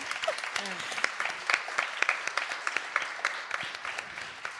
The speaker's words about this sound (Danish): Altså, man må gerne klappe for det, all this.